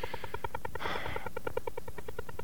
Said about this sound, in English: But I've studied it in depth, and I'm pretty convinced that it's an over-the-horizon radar, which was designed to track airplanes and ships, I think.